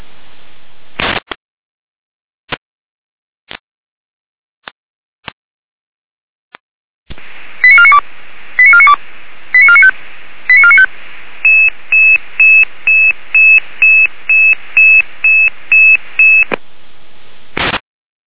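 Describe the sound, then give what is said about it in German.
Radio paging alert tones for a Red Cross rescue service dispatch: a few sharp clicks, then a run of short warbling tone bursts followed by a rapid, evenly spaced series of steady beeps, loud over a band-limited radio hiss. “Permanente Alarmierung.”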